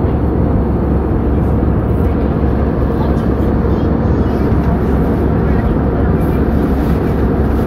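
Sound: airplane cabin noise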